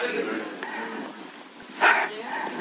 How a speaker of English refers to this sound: Show yourself here, you damn dog. You won't do it again, will you? You have to bark like a howling wolf out there.